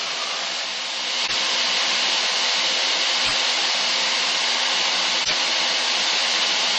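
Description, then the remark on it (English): A loud, unbroken roar of airplane cabin noise, a steady rushing hiss with no voices, marked only by a few faint low thumps spaced about two seconds apart. “Like, yeah, it's because it's so loud inside the airplane.”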